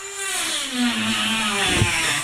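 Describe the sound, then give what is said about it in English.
A power tool whines steadily, like a drill or saw biting into material during a new fiber installation, its motor pitch sagging and rising slightly over a couple of seconds, fairly loud and continuous with no voices. “Is that a drill or something? Sounds like sawing.”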